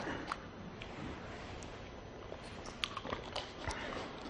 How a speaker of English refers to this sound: I'm sorry, I have to drink a sip of water.